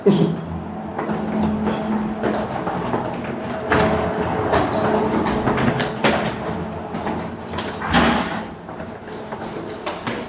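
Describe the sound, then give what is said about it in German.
A steady whooshing hum from a refrigeration chiller on the first floor, a dense broad rush with low droning tones running through it, swelling briefly in a few louder surges, with faint voices now and then. “Im ersten Stock hört man das Rauschen der Kältemaschine.”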